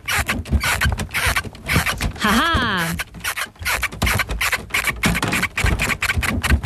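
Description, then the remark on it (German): A bed squeaks and creaks with steady scratchy rubbing throughout, broken midway by one loud, high squeal that wobbles and bends in pitch. A person laughs briefly over it. “Es handelt sich um ein quietschendes Bett.”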